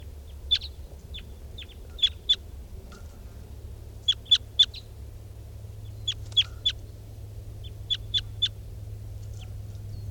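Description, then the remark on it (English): Wild birds flying over, with a bunch of wild crossbills around, call in sharp, high chirps, often bunched in quick groups of two to four, recurring throughout over a low, steady rumble. No one speaks. “There's wild birds fly over.”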